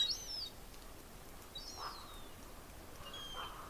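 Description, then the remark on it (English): Gulls call faintly as they come down, a few thin, wavering cries spaced out over a quiet outdoor hush with low wind rumble. “Gulls finally are coming down.”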